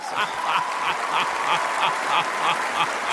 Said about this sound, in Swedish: Jubel!